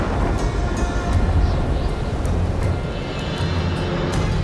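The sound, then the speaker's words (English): A deafening roll of thunder, a heavy, sustained low rumble that stays loud for the whole stretch, with faint crackling bursts flickering above it and no voices. “Then the Leviathan heard a deafening boom. The thunder seemed to shake his very bones.”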